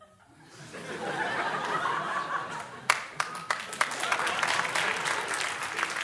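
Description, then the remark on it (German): Audience applause swells from a quiet start into steady clapping, with a few sharp, louder claps standing out near the end and some scattered laughter mixed into the crowd noise. “Ich brauche den Applaus. Als Künstler, wie das Brot, wirklich. Ich brauch den Applaus.”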